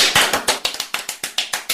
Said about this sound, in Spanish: Vamos a darle la bienvenida a Milton, para el que ya pido un fuerte aplauso.